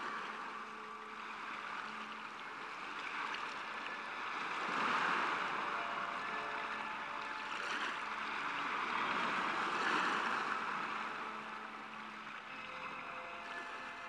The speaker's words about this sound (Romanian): Marea se lovea de stâncă și împrăștia o ploaie de stropi peste dânsii.